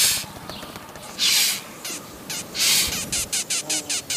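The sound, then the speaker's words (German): A beetle's defensive stridulation, dry scratchy rasps: two longer squeaks, then a quick run of short, evenly spaced chirps over a faint hiss. No one speaks. “Manche Käfer machen Geräusche, vor allem wenn sie sich wehren.”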